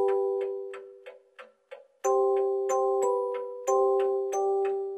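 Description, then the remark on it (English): A clock ticks in a steady, quick rhythm, clear and distinct, while bright ringing chime tones swell and linger beneath the ticks. No one speaks. “You're looking at your clock and it's now 2:20, 2:30, 2:40, and you're doing the math.”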